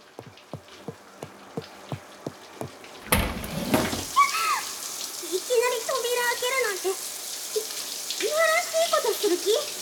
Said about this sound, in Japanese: このシャワー冷たくてついびっくりしちゃったの。